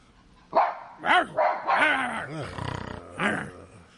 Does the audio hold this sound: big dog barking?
yes